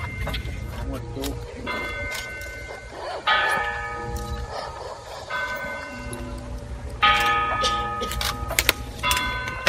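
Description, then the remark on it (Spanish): The bell of the parish church of San Cecilio tolls slowly from a distance at the hour recalling the death of Jesus, four or five resonant strokes spaced a couple of seconds apart, each ringing out and fading over a low steady rumble and faint murmur of voices. “A esa hora en punto, un agudo cornetín llama a la oración, al silencio y al recogimiento, mientras que a lo lejos se deja escuchar, aprovechando un antiguo privilegio, la campana de la parroquia de San Cecilio.”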